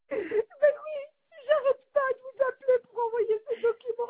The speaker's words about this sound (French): Je pense que vous avez un bébé à côté de vous.